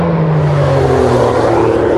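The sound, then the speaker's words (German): A car roars past, its engine a loud, steady droning hum with shifting pitch that fills the whole two seconds, with no one talking. “Auto kommt, ich pausiere kurz, sonst wird es zu laut.”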